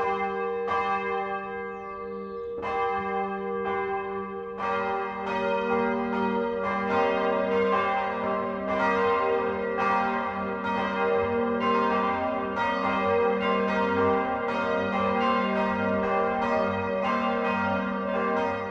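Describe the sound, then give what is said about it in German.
Several church bells of the roughly 300-year-old village church in Petersbuch, Eichstätt district, Upper Bavaria, Germany, ring together in a full, continuous 12 o'clock noon peal, their overlapping strikes and long resonant tones steady throughout, with no voices. “Das Mittagsläuten kommt heute aus Petersbuch im Landkreis Eichstätt.”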